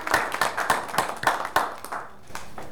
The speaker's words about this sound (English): Thank you very much, choir, for that beautiful singing. Let's give them a round of applause for that great singing.